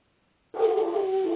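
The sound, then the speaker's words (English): Pet dogs barking: after a brief silence, a sudden, steady, drawn-out burst of canine vocalizing starts and continues to the end, loud, with no talking. “My dogs apparently disagree, but I don't believe I need to listen to them.”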